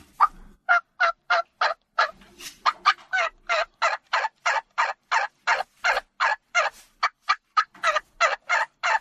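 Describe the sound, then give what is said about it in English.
A long, rapid string of hen turkey yelps, imitated on a call, about two dozen clear, loud notes in a steady, urgent rhythm with a pleading, yearning inflection and no talking. “A lot of times the way I respond, or in the wild, the way a hen will respond, she immediately puts a different inflection on it that puts a little bit more yearning.”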